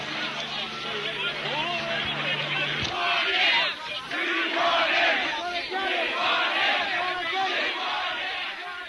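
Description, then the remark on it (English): A large crowd at a Vietnam War protest, pushing against troops and marshals, yells and chants "Sieg Heil" together, a dense roar of many voices that stays loud and continuous throughout, with a low engine-like hum underneath for the first few seconds. “Members of the crowd shouting Sieg Heil.”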